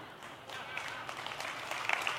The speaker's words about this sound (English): And I know. It sounds like one of those Christian cliche, kind of too easy things, and all the Christians clapped.